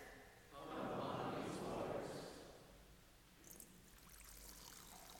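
Water pours steadily into a baptismal font during a church baptism service for about two seconds, a splashing, bubbling rush that tapers off into a faint trickle and quiet room tone.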